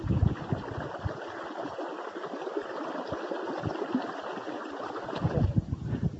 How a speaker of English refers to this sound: That is Cold Spring, a babbling brook, and very, very cold.